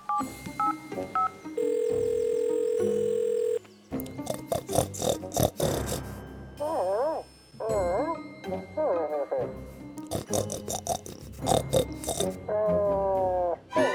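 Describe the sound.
A quick series of telephone dialing beeps, then a steady, fairly loud ringing tone lasting about two seconds, followed by a voice talking with lively, animated sounds.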